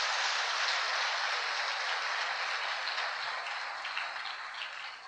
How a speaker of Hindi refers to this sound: सबका भावी ब्रह्मा कुमारियों का एक बार ताली बजाकर भी स्वागत करना।